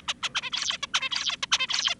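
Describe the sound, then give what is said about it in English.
An adult male zebra finch sings a rapid, structured song: a string of quick, high, harmonic-rich syllables with sharp downward sweeps, repeating rhythmically for two seconds with no voices present. “And finally, this is the adult finch with 401k mortgage, all that.”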